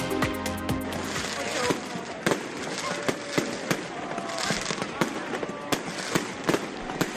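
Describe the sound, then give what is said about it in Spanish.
Festival firework bombs (bombas de palenque) and crackling flames on the night of San Juan, bangs going off one after another at an irregular pace, with sharp cracks over a dense, steady crackle and a low rumbling background, and faint voices in the mix. “El crepitar de las llamas y las bombas de palenque son sonidos muy reconocibles para todos y lo son mucho más en una noche de San Juan como la que celebramos dentro de unas horas.”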